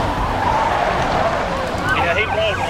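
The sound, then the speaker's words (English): A speeding older Monte Carlo, fleeing a police pursuit at about 90 in the hills, roars steadily, and near the end its worn left rear retread tire gives out with rising, wavering squeals of strained rubber over the constant engine and road noise, with a faint wail behind. “Eventually, the car's tired old retreads give out first.”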